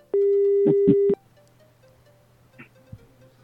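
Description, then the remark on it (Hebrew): A loud, steady telephone dial tone hums for about a second, broken by a few brief clicks, then cuts off into a quiet hiss with faint scattered noises, as a call is placed to a publicist's phone number. “יש לנו מספר טלפון של יחצן, בוא ננסה להבין אם הוא קשור, בוא נראה שנייה.”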